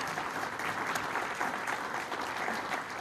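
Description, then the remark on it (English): An audience claps steadily in a dense, sustained round of applause for the panelists of a Project Milwaukee panel event, many hands patting together in a continuous crackling wash with no voices standing out. “Let's give them a round of applause and thanks.”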